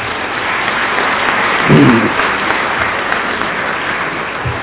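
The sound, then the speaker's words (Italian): Steady audience applause in a hall for the young members of Benebrit, a dense wash of many hands clapping at moderate loudness, with a brief swell in the middle before it carries on evenly. “Quindi un applauso ai giovani del Benebrit.”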